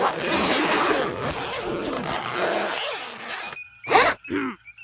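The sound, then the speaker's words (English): Several clothing zippers are zipped up together in a dense, rasping rush, then a brief pause and two quick, sharp zips. “Everyone zip up and shut up!”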